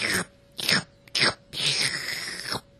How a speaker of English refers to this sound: He was really delighted and began to munch on them, making huge slurping noises. You wouldn't think a raven could be that slurpy, but he was.